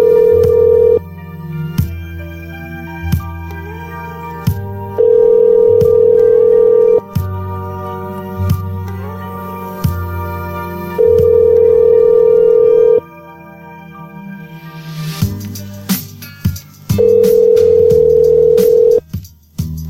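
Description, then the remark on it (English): A phone call rings out unanswered, the outgoing ring tone repeating four times in a steady long-pause cadence, with a faint busy musical background beneath it and no one picking up. “He isn't respectful enough to pick up the phone a second time, you know?”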